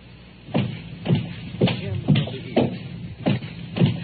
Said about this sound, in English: Footsteps. How many could you save if you had the convenience of extension phones?